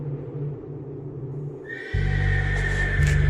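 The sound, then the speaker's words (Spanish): A horse neighs loudly, a shrill drawn-out whinny rising over a low rumbling that swells and then holds steady, with no voices present. “De madrugada se escuchó un relinchido, pero no venía de las caballerizas, sino cerca de los dormitorios, en los oscuros pasillos de la casa de la hacienda, que dadas las circunstancias, se hallaba convertida en una base militar.”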